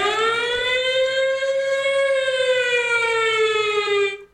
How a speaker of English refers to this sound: And we get on some Independence Day shit, and the motherfucking alarms come on, and the aliens are here, shit, man.